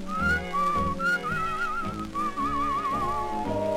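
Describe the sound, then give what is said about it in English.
A cheerful human whistle carries a bright, wavering melody with light vibrato, loud, over soft instrumental backing that continues throughout. “If you couldn't beg or borrow and thorny trails were all you knew, I'd greet every thorn and thistle with a cheerful little whistle.”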